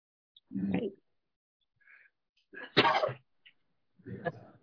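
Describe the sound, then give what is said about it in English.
A sharp, explosive sneeze bursts out, bracketed by a couple of softer breathy bursts before and after, with brief quiet gaps between them and no talking. “So, excuse my sneezing”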